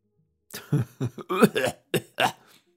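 coughing

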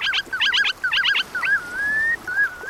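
red knot shorebird calls

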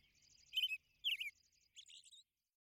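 bird song

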